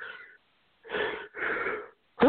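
A couple of drawn-out, wheezy breaths build up and then break into one loud, sudden sneeze at the very end. There's no talking.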